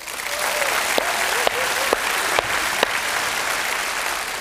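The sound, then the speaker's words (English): Sustained applause from the Pine Lake audience welcoming a speaker, a dense steady wash of clapping with several sharper, louder claps standing out at roughly half-second intervals, no voices heard. “So Pine Lake family, will you once again open up your hearts, open up your Bible, put your hands together, and give a warm welcome to”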